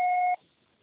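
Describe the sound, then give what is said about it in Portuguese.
A single steady electronic beep, about a third of a second long, with a clear mid-pitched tone and a higher overtone, then cutting off into near silence: an answering machine's signal to start recording a message. “você só será tarifado após o sinal. Grave seu recado.”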